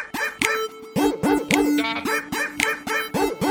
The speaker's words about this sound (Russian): У меня во дворе даже лают собаки.